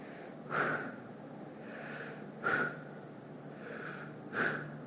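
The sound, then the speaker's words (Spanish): Slow, deliberate breathing: three sharp, forceful inhales at a steady pace, each followed by a softer, longer airy exhale, with no talking, as breath voicing the name of God, whose letters represent the sound of human breathing. “La única manera en la que este nombre puede decirse o tomar algún sentido, ¿sabes cómo es? Respirando.”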